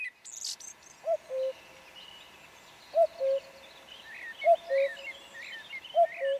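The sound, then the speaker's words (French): A common cuckoo calls its two-note, falling cu-coo four times at steady intervals from the edge of the Seillon forest, carried on the south wind, clear but somewhat distant, while fainter songbirds twitter in the background. “L'autre jour, en fin d'après-midi, j'étais dans mon jardin ouvrier et j'ai entendu le chant du coucou porté par le vent du sud depuis l'orée de la forêt de Seillon.”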